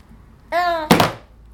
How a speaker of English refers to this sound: Oh, bang your cup.